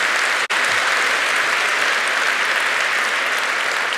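A church audience applauds steadily, a dense, even wash of many hands clapping. It stays loud and sustained for the whole stretch, with only a momentary break near the start and no voices.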